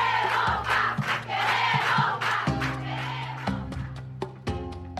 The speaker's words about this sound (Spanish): ¿Quiénes son los que están aplaudiendo? ¿La visita? Sí, la visita. ¿Y qué están diciendo? Gritan, queremos pan.